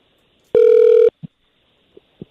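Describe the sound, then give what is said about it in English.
A single loud, steady burst of a telephone ring tone lasting about half a second, as an outgoing call to a man's ex-wife rings through on the line during a 'Truth and Consequences' call segment, followed by a few soft clicks and taps. “When it starts ringing, it'll just be all on you.”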